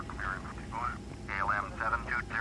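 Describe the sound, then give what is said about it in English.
An airplane engine that never shut down keeps running, droning steadily throughout, a continuous low rumble at moderate volume, with a person talking over it in overlapping bursts. “My plane never shut down to begin with.”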